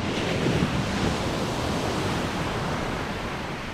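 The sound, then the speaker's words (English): Ocean waves crash against huge video screens at the entrance of the Legacy Museum in Montgomery, Alabama, in a continuous, full roar of surf that stays loud and steady throughout, with no distinct pauses between breakers and no voices. “The first thing you see when you walk into the Legacy Museum in Montgomery, Alabama, are ocean waves crashing up against huge video screens in front of you.”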